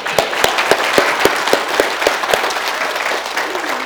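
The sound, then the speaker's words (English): Audience applause for the Lord Jesus Christ: a dense, steady wash of many hands clapping, with a few sharper, louder claps standing out in a rough rhythm early on, sustained at a fairly loud level throughout. “Now let's give an even bigger round of applause for the Lord Jesus Christ.”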